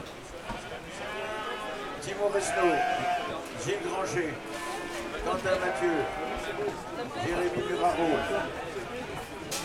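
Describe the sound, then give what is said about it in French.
Several sheep bleat repeatedly at a sheep-shearing competition, their wavering cries overlapping amid a steady hum of crowd chatter and activity. “Puis ensuite, là, il y a un toboggan et les bêtes, elles repartent derrière la case où les animaux seront jugés après la tonte.”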